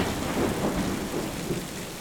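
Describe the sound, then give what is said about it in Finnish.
A growing thunderstorm with howling wind and flashing lightning: steady, heavy rain hisses throughout while deep thunder rumbles low underneath and wind blends into the roar. The sound holds an even loudness, and no voices are present. “Myrsky yltyy yltymistä. Tuuli vinkuu ja salamat alkavat leimahtelemaan.”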